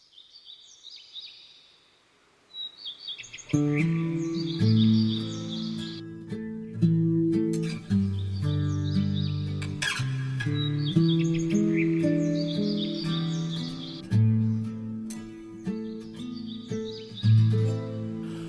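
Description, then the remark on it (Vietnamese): Birds chirp and sing in quick, bright bursts, alone at first, then continuing over a steady, full musical backing that enters after a few seconds and carries on beneath the calls. “Ngồi đây lắng tiếng chim bay”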